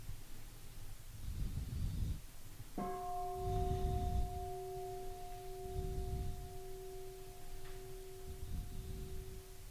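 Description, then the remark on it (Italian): A single bell is struck once and rings with a long, steady, fading tone, over soft, rhythmic low rumbling noise in the background. No one speaks. “Possiamo ascoltare la campana?”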